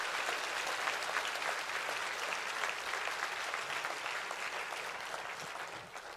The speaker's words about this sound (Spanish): Si ese es el aplauso, dáselo bien a tu papá.